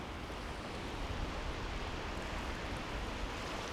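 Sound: sea waves and wind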